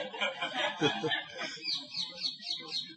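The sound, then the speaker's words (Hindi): Brinda Devi's parrot gives a burst of raspy, laugh-like cackling, then a quick run of repeated high, chirpy calls, moderately loud. “और ये बृंदा देवी का तोता है, अभी सुना है और वो भी हंस रहे हैं।”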